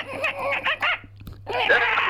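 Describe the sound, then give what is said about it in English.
A man imitates a dolphin with a run of high, squeaky chirps and whistles in quick bursts, breaks off briefly, then finishes with a longer, bright warbling squeal. “Can you do a dolphin sound for us?”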